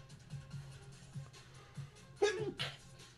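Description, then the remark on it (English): A sharp sneeze bursts out, followed a moment later by a second, slightly softer one, over a low murmur of voices in the background. “Bless you. Thank you.”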